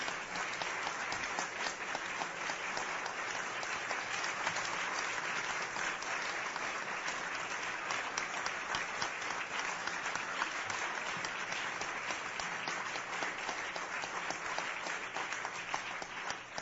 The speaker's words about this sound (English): Certainly some well-earned applause there for Grace Fong, the 2009 Crystal DeHaan Classical Fellow of the American Pianist Association.